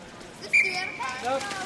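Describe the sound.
A single quick, shrill whistle blast cuts in sharply at a log-rolling session at the Y, with relatives in the bleachers, then fades as faint voices murmur in the background.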